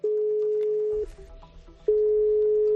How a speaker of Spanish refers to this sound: ¿te parece que toquemos el timbre? Venga, dale. Vamos a por ello.